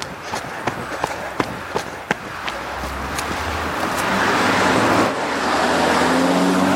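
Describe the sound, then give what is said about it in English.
A Toyota minivan drives past, its engine rumble and tire hiss swelling steadily over several seconds, after a run of sharp, irregular clicks and taps at the start. No one speaks. “Toyota minivan.”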